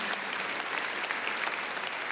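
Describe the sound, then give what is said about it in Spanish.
A steady burst of audience applause, dense overlapping claps sustained evenly at a strong level throughout, with no voices standing out above it. “Ahora, escúchame esto, no aplaudas tanto.”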